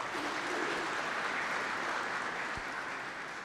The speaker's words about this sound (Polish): Wielkie brawa.